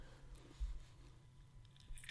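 Soft wet chewing of grapes, with a squishy bite near the start and another near the end, over a quiet low background hum and no talking.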